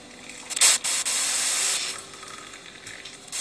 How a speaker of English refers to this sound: carefully pour boiling water into the mug.